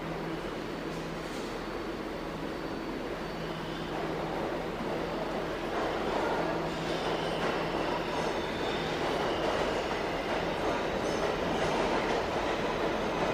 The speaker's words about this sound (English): Oh, and look, another one. Yet another one coming down the express track.